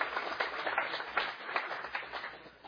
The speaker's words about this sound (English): How about a round of applause for him?